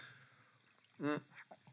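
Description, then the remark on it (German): Someone takes a quick sip of a drink, a single short gulp, loud against an otherwise quiet background with faint soft noises before and after. “Hoppala, ich muss gerade noch einen Schluck trinken.”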